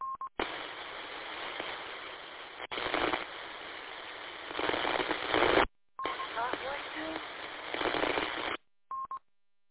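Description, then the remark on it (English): A two-way radio gives short mid-pitched beeps at the start and end, with bursts of hissy, band-limited static and faint garbled radio voices in between. “Either of you know why my radio is beeping?”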